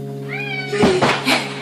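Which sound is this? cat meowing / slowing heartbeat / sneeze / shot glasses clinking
cat meowing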